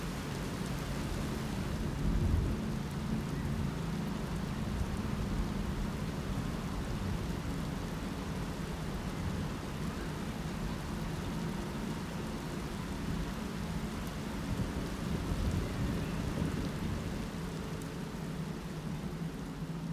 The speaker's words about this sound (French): Le grand orage éclata juste avant minuit, le 8 août. La foudre frappa de façon répétée tous les quartiers de la ville et d'aucuns prétendirent avoir vu arriver deux extraordinaires boules de feu.